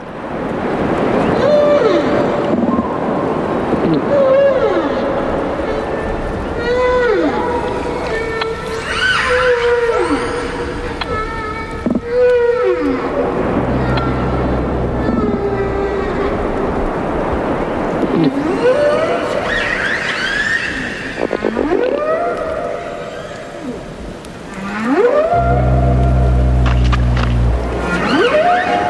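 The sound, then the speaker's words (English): Underwater composite recording of humpback whales in Hawaii, killer whales off Vancouver Island and a dozen fish species in the Caribbean, recorded in coral reefs and open ocean: rising and falling moans and whistles, some high-pitched squeals, over low rumbling pulses and grunts from fish, continuous and fairly loud, with no talking. “It includes humpback whales in Hawaii, killer whales off of Vancouver Island, a dozen species of fish in the Caribbean.”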